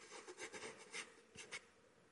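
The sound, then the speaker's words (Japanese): A fountain pen nib with deep blue ink scratches across white paper in a string of short, dry rasping strokes, quiet, with brief pauses between bursts and no voices, as someone writes in a diary. “濃い青いインクが紙をこすっている。”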